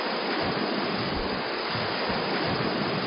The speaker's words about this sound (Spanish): el hecho de que las olas del mar de fondo llegan a nuestras playas en grupos, de distintas alturas. Entre los hombres del mar se habla de las tres Marías, es decir, las tres olas mayores que llegan seguidas junto a otras más pequeñas.